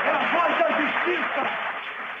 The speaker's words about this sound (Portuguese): Tem até um gritinho de já ganhou da plateia.